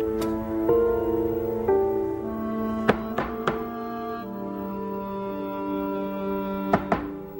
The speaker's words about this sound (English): He checks the door handle.